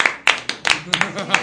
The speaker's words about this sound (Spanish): No, un aplauso.